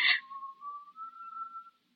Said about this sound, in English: That whistling. I can't stand it